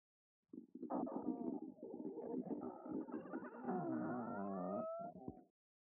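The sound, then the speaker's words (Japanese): A voice imitates a long run of farting, with buzzy, sputtering blasts that rise and wobble in pitch for about five seconds, loud, with no other sounds. “こんな汚い音でこきまくり、狙った通りの音が出せてすごいでしょう。”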